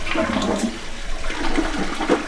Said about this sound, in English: Didn't think we'd get through this whole story without hearing at least one flush, right?